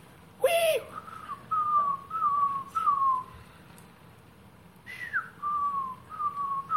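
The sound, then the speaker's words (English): A bird living in the trees around a house calls alone at night in a series of clear, whistled notes, each sliding slightly downward, in two bursts separated by a short pause, over a low steady background hum. “We have a crazy bird that lives somewhere around our house up in the trees. It doesn't seem to know the difference between daytime and nighttime.”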